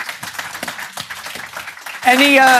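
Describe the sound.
An audience claps in a dense, steady patter of many hands for about two seconds, then a loud, tonal voice rises over the fading applause.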